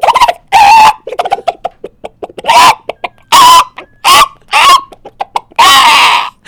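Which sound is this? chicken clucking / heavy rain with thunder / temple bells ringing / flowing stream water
chicken clucking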